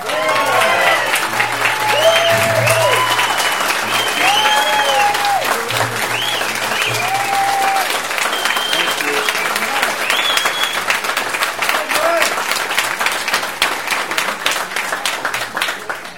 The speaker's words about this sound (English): Thank you. But you know, it gets embarrassing when the applause you get before you speak are longer than the applause you get after you speak.